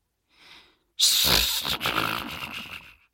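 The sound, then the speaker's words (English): A soft breathy inhale, then a loud, rough, rumbling snore-like growl, harsh, slowly fading over a couple of seconds; likely a voice imitating the wolf snoring in Grandma's bed in the Little Red Riding Hood story. “Snored the wolf.”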